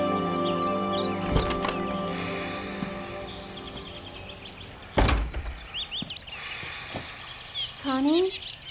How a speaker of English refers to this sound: Wait. You were listening to my birds? Yeah, they were restful.